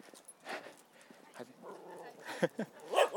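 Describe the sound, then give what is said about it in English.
A dog gives a few short, irregular barks mixed with high whimpering yelps, louder toward the end, over a low steady background hum; dogs out being walked in Salisbury. “Lots of dogs out being walked.”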